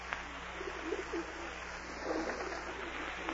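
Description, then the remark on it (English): Soft, low pigeon cooing repeats in a gentle, throaty rhythm over a steady background hiss of outdoor ambience, with no voices. “Go away, pigeon. Shoo, go on. I haven't any peanuts.”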